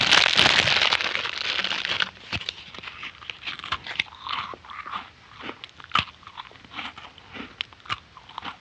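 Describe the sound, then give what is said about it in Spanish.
A hungry boy bites into cookies with a loud, crackly crunch, then chews them in a long run of sharp, uneven crunches, each snap brief and dry, with no voices. “Tenía tanta hambre que decidió comerse unas...”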